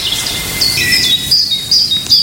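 A great tit sings repeated high, clear two-note phrases at a steady rhythm, moderately close, over a constant hissy outdoor background with insect-like buzzing.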